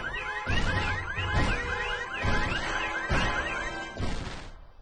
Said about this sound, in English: Parked cars rattle as he passes. Car windows and storefronts shatter.